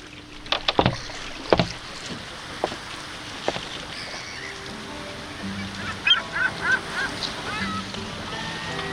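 A Venetian gondola gliding through the water in Venice, Italy, with sharp wooden knocks and splashes from the oar, a steady wash of water underneath, and a few short honking calls near the end. Nobody speaks.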